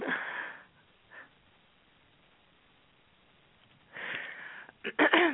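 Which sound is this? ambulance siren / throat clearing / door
throat clearing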